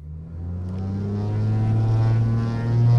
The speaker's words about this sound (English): At least four times a day, a Cape Air pilot fires up a 9-seat propeller plane in Hagerstown, Maryland, and takes off for Baltimore, sometimes with no passengers aboard.